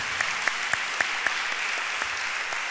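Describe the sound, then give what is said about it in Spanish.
An audience applauds in praise of Jehovah, a steady wash of clapping from many hands with a few sharper individual claps standing out at a loose rhythm, moderately loud and without voices. “Dar un aplauso.”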